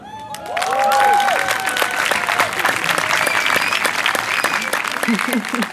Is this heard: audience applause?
yes